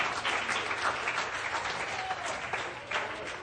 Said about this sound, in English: Give him a hand of praise tonight. Amen.